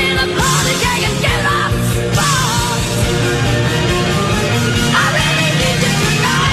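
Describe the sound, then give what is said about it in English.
A loud, dense 1980s pop song from 1983 plays throughout, with a female singer belting and straining at full power over a full band and steady, driving accompaniment. “She's screaming at me, and I'm telling you, I'm still traumatized from 1983 when that song came out.”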